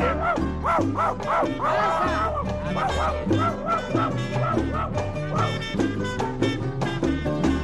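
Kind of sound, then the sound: animal, dog barking and yelping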